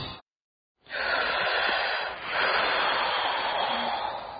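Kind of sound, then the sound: human body sound, deep breathing exercise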